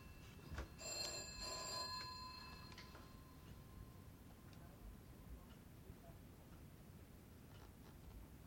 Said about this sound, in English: There's my phone.